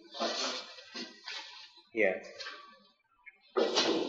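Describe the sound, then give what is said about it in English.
A wooden chair creaks and cracks as it breaks, in several short, strained bursts with brief pauses between them and a faint voice sounding briefly in the middle. “This chair is breaking.”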